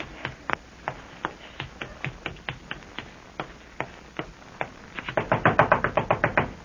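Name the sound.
knocking on a door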